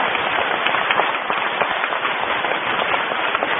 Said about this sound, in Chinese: 这么大的法会，上万人，一万几千人，有一个默默在支持我们的队伍，那就是香港的圣约翰的救护队，他们每天陪伴着我们，让我们以热烈的掌声感恩他们吧。